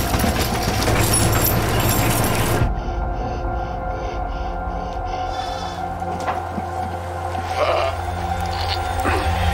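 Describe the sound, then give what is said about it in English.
A sheep lets out a loud, quavering bleat with a wobbling, pulsing tone, following a burst of harsh noise, with a steady low rumble continuing underneath. “This sheep is kind of a slut. It gets around.”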